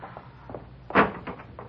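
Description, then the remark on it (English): A street door opens with a single short, solid clunk, followed by a few faint rattles as it swings, with no voices. “You go out first, Pop, and open the street door.”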